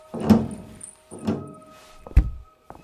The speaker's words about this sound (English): You seem to have locked the door.